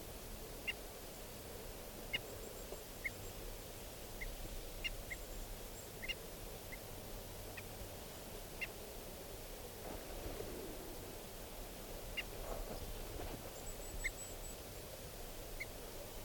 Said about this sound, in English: And the decoys are giving alarm calls. This is the alarm of 395. There's an osprey flying around here.